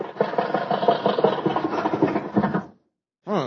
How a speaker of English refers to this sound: Funny thing how the body keeps rattling after the motor's turned off, ain't it? Yes, there's no such thing as a car having convulsions, is there?